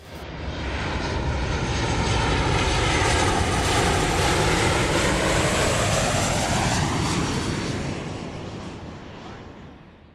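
An airplane engine roars as the aircraft passes overhead, a loud, continuous rumble whose pitch sweeps downward as it flies by before slowly fading away. No voices are heard.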